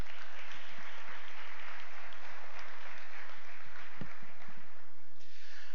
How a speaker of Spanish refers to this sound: Otro aplauso.